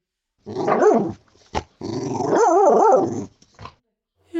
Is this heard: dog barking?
yes